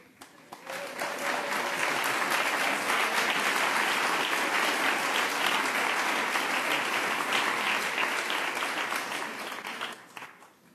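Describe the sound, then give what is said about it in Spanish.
Sustained audience applause, a dense wash of many hands clapping that swells quickly, holds steady and loud for several seconds, then tapers off toward the end. No one speaks over it. “No me hubieran aplaudido, pues.”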